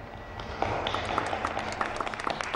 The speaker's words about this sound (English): Josepha and Susanna applaud Mozart. I don't normally get approval from my entire audience.